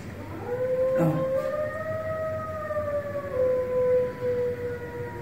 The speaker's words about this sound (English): posted a video in 2016 titled, Wolf Howls at a Fire Truck Siren! ! And it was taken at the Miller Park Zoo in Bloomington, Illinois.